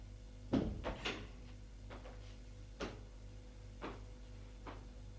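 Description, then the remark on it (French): A bedroom door opens with a cluster of sharp latch clicks and knocks, followed by a few softer, scattered taps over a low steady hum. “Tout à coup, elle entend la porte de la chambre s'ouvrir.”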